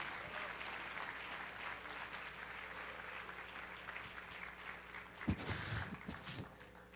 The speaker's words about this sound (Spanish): Así que para nosotros es un honor y quiero que le demos un aplauso al Señor para recibirle al pastor